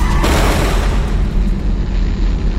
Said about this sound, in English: He hit my car!